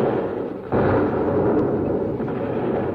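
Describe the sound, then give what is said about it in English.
Naval guns roar in the scene of a great sea battle: a low, steady rumble bursts into a sudden loud blast, then keeps thundering as one continuous, dense, booming roar with no voices. “The guns roar. The fleet is in peril.”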